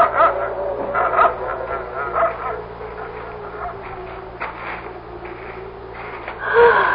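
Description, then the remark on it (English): A dog named Binks gives a run of short barks and yips mixed with high, whining whimpers, the sounds coming in uneven bursts, with a louder yelp near the end. “It would be wise not to bring the dog.”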